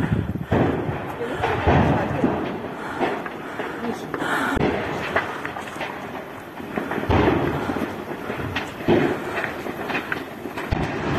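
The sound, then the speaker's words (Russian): Secondary ammunition explosions, filmed by eyewitnesses at the scene, boom and crackle in a continuous series, heavy rumbling blasts overlapping one another, with muffled voices beneath the roar. “На многочисленных видеоочевидцев с места событий хорошо видны и слышны вторичные взрывы боеприпасов.”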